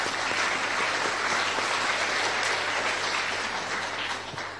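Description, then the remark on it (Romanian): Sustained audience applause for a grandmother, a dense, steady wash of many hands clapping at an even loudness, easing off slightly in the final half second. “Aplaudați această bunica.”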